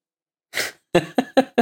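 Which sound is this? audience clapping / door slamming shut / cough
cough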